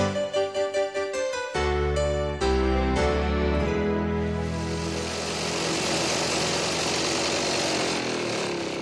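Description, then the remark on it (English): A lawn mower engine sputters through a few quick pulses, then catches and runs steadily, a loud droning motor with a rough buzzing edge that holds to the end, used to mow a small lawn. No one speaks. “Where's the lawnmower?”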